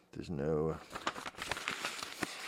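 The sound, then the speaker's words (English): Paper being crumpled, a dense run of irregular crackling and crinkling snaps that mimics a crackling fire, following a brief hummed vocal sound at the start. “There's your fire. There's your crackling fire.”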